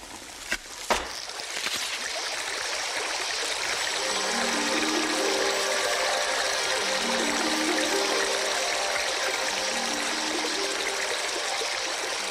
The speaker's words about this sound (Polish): wziął więc laskę, uderzył nią dwukrotnie w skałę i ze skały wypłynęła woda.